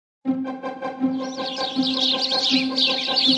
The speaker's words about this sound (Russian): На развесистой черемухе шум и трескотня. Казалось, все воробьи города слетелись сюда, и все разом предлагают свои идеи, как помочь Ханечке.